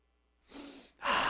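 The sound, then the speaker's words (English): Two audible sniffing inhales of the new car smell inside a new car, the second deeper and louder, breathy air rushing in through the nose with a brief pause between them. No talking. “You're sniffing in chemicals, by the way.”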